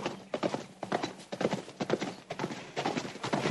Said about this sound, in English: He brought all this dust. I don't know if you noticed. He comes up with the horse, and all this dust just covers them. It's like soot. Disgusting.